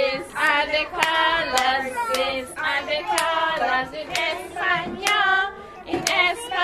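Nine two-year-olds at the Capital Kids daycare in downtown Washington, USA, clap their hands with their caregivers in a steady rhythm, sharp claps falling about twice a second while high voices sing a song together over the beat.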